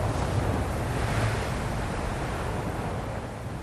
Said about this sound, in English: They say that because the majority of our bodies are water, that we're drawn to water and the sound of water. So that's the big ocean waves.